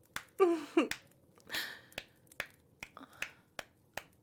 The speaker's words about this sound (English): Oh, you like watching these thick, juicy cheeks clap together. Oh, love watching the ripples in my soft, warm skin as I do it.